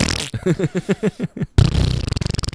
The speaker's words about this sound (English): This is Dad on 4th of July. Our dads just fart every day. This is Dad on like October 17th.